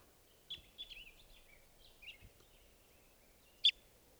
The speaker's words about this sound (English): Five eighteen. We're pointing at 518 here. 518. Sorry, testing some of the birds here.